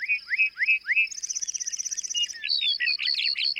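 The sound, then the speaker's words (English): A bunting, descending and flying back to earth, sings a rapid, varied song: three rising whistled notes, then a fast buzzy trill, ending in jumbled chirping phrases. Clear, with no voices. “Flying back to earth, the bunting belts out a complex series of trills, whistles, and buzzy phrases.”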